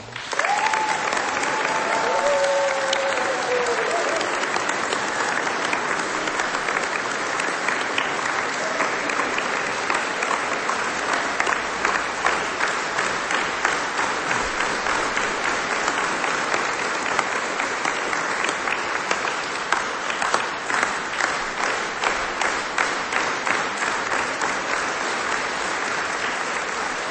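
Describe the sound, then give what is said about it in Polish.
Sustained, dense applause from a large audience at a Radio Maryja regional meeting, steady for nearly half a minute. A brief voice or whistle-like tone rises over it near the start, and faint rhythmic clapping pulses appear toward the end. “A do naszych słów życzeń i pozdrowień dołączamy nasze bardzo gorące oklaski.”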